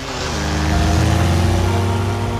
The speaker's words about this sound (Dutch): Komt ineens een motor aan.